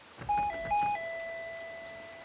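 An electronic intercom doorbell chimes at a door during a soba delivery, a quick two-tone ding-dong pattern twice, then its last note rings out and slowly fades. No voices, just the clear chime at moderate volume.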